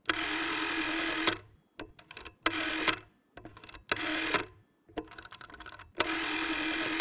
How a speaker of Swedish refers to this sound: Ingen har hört hur en nummerskiva på en telefon låter som är 15 år idag.